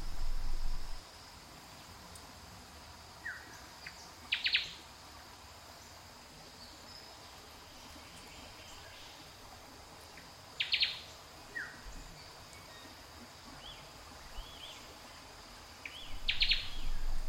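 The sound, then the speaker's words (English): A steady insect hum fills a quiet rainforest backdrop while a bird calls in short, bright bursts every few seconds, with a few fainter chirps scattered between them. “The rustling leaves, the calming chirps, all blend together to carry you away into a tranquil dreamscape.”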